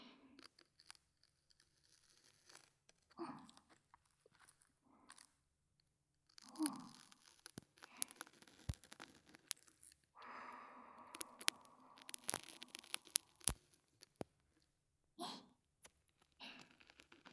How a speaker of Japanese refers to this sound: 切っていきましょう。切る音もなかなかにいいんですよ、これ。では、まずは定番のカッターから。左右の両耳の耳元でテープが切れていく音に聞き入ってくださいね。